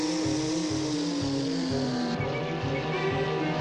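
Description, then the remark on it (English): A stolen motorboat's engine roars steadily as the thief drives it away, its droning pitch gradually sliding lower as it speeds off, with a rhythmic low throb underneath and no voices. “He stole my boat!”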